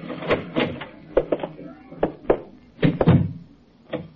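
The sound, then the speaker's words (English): A front door being opened, with a series of irregular wooden thunks and rattles as the latch and door are worked, ending in one last knock. “Front door's open.”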